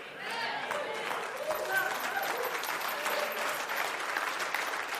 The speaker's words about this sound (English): The pastor raised his voice. They clap a little bit. No. No. Don't mistake it, my friends. I'm not going for applause. I'm not going for clapping. They can do that.